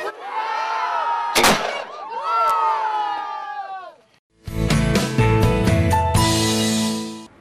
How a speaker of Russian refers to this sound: На этот раз экскурсия завершилась настоящим орудийным залпом из 6-фунтовой пушки. Это стало настоящим подарком для юных смельчаков.